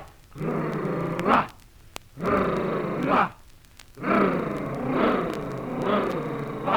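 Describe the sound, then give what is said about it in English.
A bear growls in three long, rough, throaty bursts, each swelling and rising sharply at the end, loud with short pauses between and no talking. “And when he hears a threat, a lonely stands for red, from his lair he fiercely growls.”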